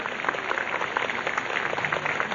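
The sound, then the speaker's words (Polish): Steady, dense applause from a large outdoor crowd at a prayer gathering, under umbrellas, welcoming a guest speaker from Kraków; many hands clap at once in a continuous crackling wash that holds an even loudness throughout, with no voices on top. “Na pewno głośno odezwały się te oklaski w bazylice, bo tam jest też bardzo wielu pielgrzymów.”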